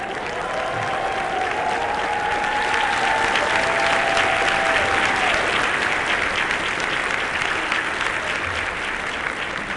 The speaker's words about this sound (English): You're going to have to stand up and take an applause.